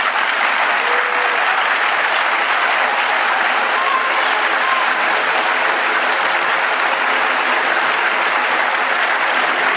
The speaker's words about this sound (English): Yes, on that point you may applaud.